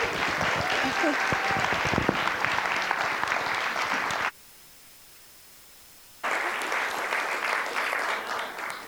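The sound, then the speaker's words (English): An audience at Oak River breaks into sustained applause welcoming a speaker, a dense, steady clatter of many hands with a few whoops, cutting out abruptly for about two seconds before the clapping resumes just as full. “So just give her a big old Oak River welcome, okay?”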